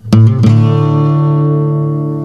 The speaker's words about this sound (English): The big finale just pretty much involves hammering on and off on the third fret of any of your A, your D, your low D or your middle D, and your G strings. So if I'm hammering on the A string, it'll sound like...